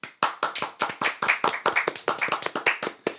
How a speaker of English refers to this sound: Hand clap.